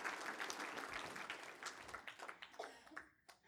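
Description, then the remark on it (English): A church audience breaks into dense, steady applause, many hands clapping at once in a bright continuous patter that thins out toward the end, with a few sharp individual claps standing out. “Oh, that's worth a clap.”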